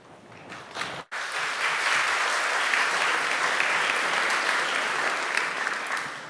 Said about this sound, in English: I gave you two rounds of applause. I don't even get one anymore, so you should feel well welcome now